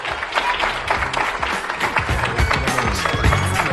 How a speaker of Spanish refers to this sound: también hay que dar un aplauso muy fuerte a Noelia.